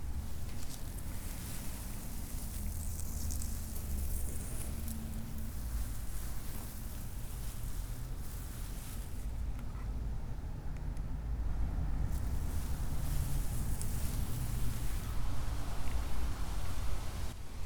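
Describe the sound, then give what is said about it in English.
Fuzzy microphone wind muffs brush against grass, making a continuous scratchy rustle over a low, wind-like rumble that grows slightly louder in the second half. No one speaks. “I'm just brushing the grass with the wind muffs.”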